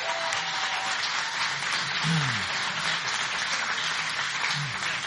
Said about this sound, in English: Anyway, big round of applause for yourselves.